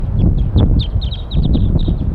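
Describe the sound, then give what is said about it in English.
A flock of wild birds calls from the top of a pine tree above a set-up net, a busy run of short, high-pitched chirps and squeaky notes coming in quick succession over a steady low rumble, with no voices. “And more birds are coming in. They're all up in the top of the pine tree above where we've got the net set up now.”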